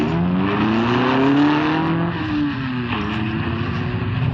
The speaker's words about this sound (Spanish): Una vez que el auto desaparece en el oscuro callejón, Ferrison y el oriental salen de su escondite.